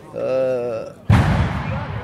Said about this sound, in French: Ok, on me demande une petite phase et là-bas, ça pète. Encore un pétard qui vient d'où, on sait pas, c'est la fête.